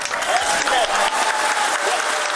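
People at India's space centre applaud steadily with dense, continuous clapping, mixed with scattered cheers and excited voices rising above it, loud throughout, as a staff member announces the spacecraft's landing on the Moon.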